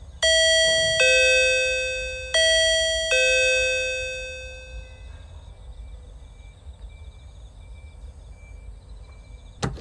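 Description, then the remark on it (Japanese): An intercom doorbell button is pressed and a bright electronic chime rings out, two ding-dong pairs played back to back, clear, then its tones fade into a quiet hum with no talking. “とりあえずインターホンしますね。”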